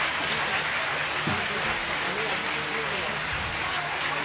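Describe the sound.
A crowd claps steadily, a dense, even patter of many hands that holds for about four seconds, with faint voices murmuring underneath; a Brahmin family gathering applauding to welcome Dadi Ji on her arrival.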